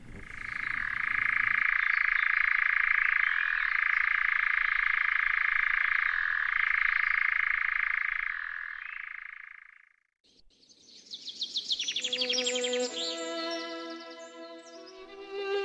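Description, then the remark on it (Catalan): A European nightjar churrs in a long, unbroken mechanical trill, loud, for about ten seconds before stopping abruptly; a brief musical passage follows. “Doncs acabem tornant a escoltar el cant ben curiós d'aquest ocell, l'enganyapastors.”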